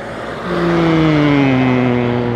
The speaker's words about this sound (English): There's no sound effects added. This is all original sound. There's a car about to go past.